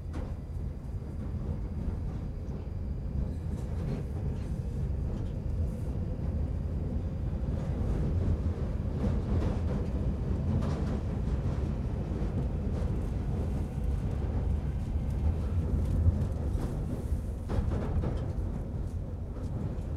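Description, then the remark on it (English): A train or tram rolls steadily between stations, with Oldham as the next station. A continuous deep rumble with occasional clacks and rattles layered on top, loud throughout with no voices. “Next station is Oldham.”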